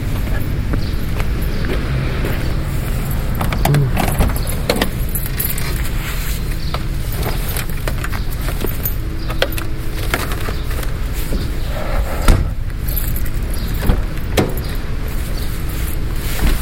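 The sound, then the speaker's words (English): Someone who has just stepped out of a building getting into their car: rustling and handling noises, keys jangling and scattered soft knocks over a steady outdoor hum, with no one talking. “Okay, I just step off of the building, getting into my car.”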